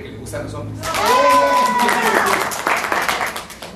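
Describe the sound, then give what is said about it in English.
A class breaks into loud clapping after one man declares himself a man who likes men; the clapping builds quickly and carries on for a few seconds, with excited voices and cheers mixed in over the applause. “And everyone claps loudly when one guy proclaims himself a man who likes men.”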